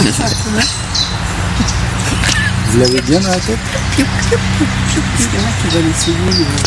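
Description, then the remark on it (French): A common chiffchaff sings a steady run of bright, high two-pitched notes in the background while a person talks over it in the foreground. “pouillot vélos c'est le nom français officiel, mais on a un petit nom en français qui parle aussi.”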